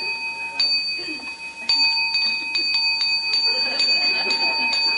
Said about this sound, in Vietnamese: Trời ơi, hãy nghe chuông.